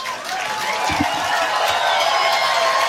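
crowd applauding

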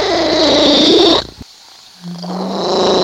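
cat purring

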